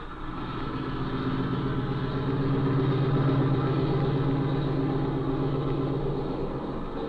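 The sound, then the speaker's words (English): A small airplane engine drones steadily at a low, even throttle as the plane taxis on its wheels through water toward a shed, a continuous rumble with a slight pulsing roughness and no voices. “I suppose we might as well taxi right over to that shed.”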